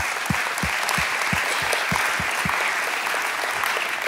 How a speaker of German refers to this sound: Da gibt es keine Worte dafür. Applaus für dich.